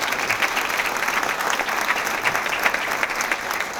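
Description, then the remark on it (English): Sustained applause from a sizable audience for the presenters, a steady wash of many hands clapping at even loudness throughout, dense with no voices standing out. “Okay, one more round of applause for our presenters.”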